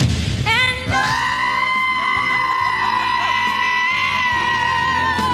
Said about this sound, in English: I love the screaming goat video.